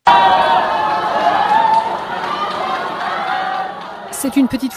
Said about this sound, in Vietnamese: Một nhóm người hân hoan đón nhà tài phiệt báo chí đối lập Lê Chí Anh Jimmy Lai khi ông ra khỏi đồn cảnh sát khu Vượng Giác cùng với các luật sư của ông vào khoảng nửa đêm